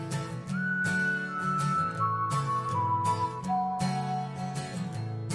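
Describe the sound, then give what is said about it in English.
A person whistles a slow tune of long, sustained notes that step gradually downward, carried over a steady, full instrumental music backing at moderate volume, on a Today FM radio show. “Start whistling”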